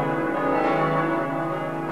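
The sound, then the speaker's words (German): Jesaja, the heaviest of the Frauenkirche's eight church bells at 1.7 tonnes, swings out with a deep, heavy ring and dense, sustained metallic overtones, the swing of its strokes slowing as the sound gradually fades. No one speaks. “Den Anfang machte die kleinste Glocke Hanna und was sie zum Schluss hörten, das war noch das Ausschwingen von Jesaja mit 1,7 Tonnen der schwersten Glocke.”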